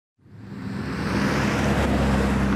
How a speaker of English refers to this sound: The traffic on this stretch of I-25 north of Denver is the soundtrack to the changes that farmer Kent Pepler has seen happening in Weld County.